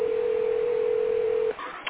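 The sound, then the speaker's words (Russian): A telephone ringback tone while a call connects and the person called has not yet answered: one steady, mid-pitched beep holds for about a second and a half, then cuts off into faint line noise and a small click. “Алло, продолжай дозвон, не отключайтесь.”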